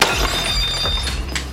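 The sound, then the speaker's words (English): Glass shatters with a sharp crash, followed by a scattered rattle of shards tinkling and skittering across a hard surface, fairly loud, with no talking. “there is nothing in this house that is your anything. Not even this glass.”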